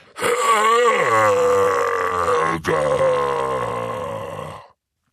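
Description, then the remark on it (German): A man's voice imitates a giant's roar: one long, loud, gravelly bellow lasting about four seconds, wavering in pitch with a brief catch midway, alone. “Er bückte sich ein wenig, die Arme der Zentauren an ihren Bogen spannten sich, dann brüllte er.”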